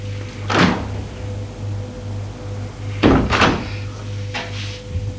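knocking on a door

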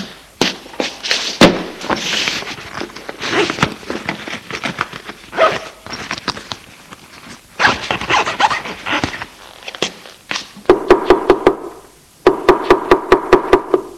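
knocking on a door

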